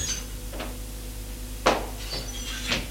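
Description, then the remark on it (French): A door on the opposite side of a Louis XV-style salon opens with a sharp knock or latch click, followed by softer bumps and scrapes, set against a steady low hum. “Une autre porte en face s'ouvre.”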